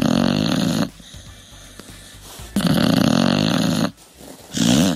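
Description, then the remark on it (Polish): A dog makes three loud, drawn-out, throaty vocal sounds, each a second or so long with short pauses between, rough and snore-like, with no talking. “To właśnie po tej końcówce to jest pieseł.”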